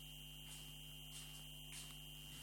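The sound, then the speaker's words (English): A window is closed and an air conditioner is switched on, humming steadily at a low, constant pitch, fairly quiet and unchanging throughout, with no voices and only a faint click right at the end. “I'd better close the window and turn on the air conditioner.”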